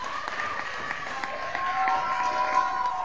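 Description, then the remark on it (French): Steady applause from an audience for twelve amateur performers after a four-hour performance, dense overlapping claps with some cheering voices mixed in, sustained and growing slightly louder toward the end. “On peut les applaudir aussi.”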